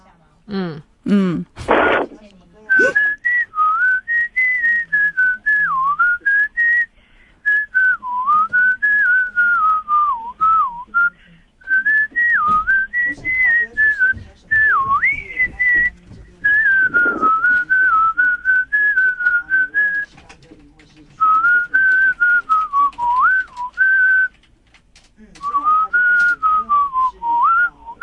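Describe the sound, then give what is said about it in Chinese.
A caller on the phone from Kaohsiung, stopped at the side of a highway, whistles a melodic tune in clear, sustained phrases with short pauses between them, fairly loud, after a brief burst of noise at the start. “好，如果有塞车就不要吹口哨。”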